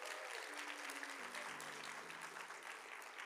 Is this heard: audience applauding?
yes